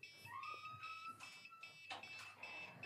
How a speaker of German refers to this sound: Das ist die Fernbedienung von Kevins Drohne anscheinend. Die lag draußen vor der Tür und hat es angefangen zu piepsen.